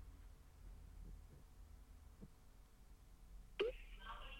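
phone ringing

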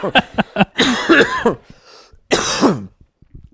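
coughing

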